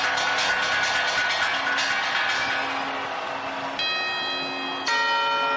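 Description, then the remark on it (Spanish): Loud clock-tower bells chime the quarters, a rapid cluster of ringing strikes that blend into a humming sustain, then two separate resonant strokes near the end, in a rehearsal ahead of New Year's Eve. No voices. “Primero han sido los cuartos y ahora las campanadas.”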